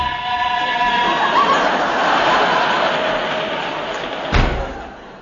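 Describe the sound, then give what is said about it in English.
A door bangs shut with one sharp, heavy slam near the end, cutting through a steady, loud rushing rumble with faint whistling tones that fills the whole clip. “Quick, open that door.”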